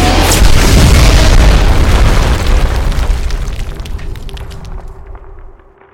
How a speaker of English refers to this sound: Yeah, there's a massive explosion.